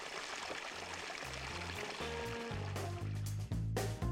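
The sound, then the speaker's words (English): Continuous watery sloshing and splashing as a group takes an end-of-day dip in hot springs amid autumn reeds, at a steady, moderate level, with low sustained musical tones beneath it. “And as the group enjoyed an end-of-day dip into the hot springs, I couldn't help but wonder this.”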